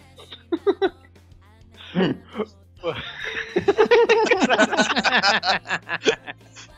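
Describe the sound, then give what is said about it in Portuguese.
A single sharp cough bursts out, fairly loud, surrounded by brief vocal sounds, then a run of quick, breathy bursts that sound like laughter or excited voices. “Ô, oh, cara, tossiu!”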